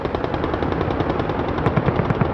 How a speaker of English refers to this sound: These are the sounds our team in Tripoli has recorded in the last few hours. Artillery, gunfire, and explosions.